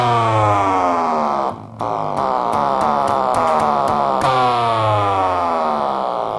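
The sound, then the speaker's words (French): A magnet spun by hand in front of a cassette playback head, with no magnetic tape and no motor, makes a loud, growling bass drone with wavering, sweeping overtones and faint rhythmic clicks, played out through a small tape recorder. It briefly drops out once early on, with no talking. “c'est une cassette qui permet de produire des grosses basses avec juste un aimant que je fais tourner à la main”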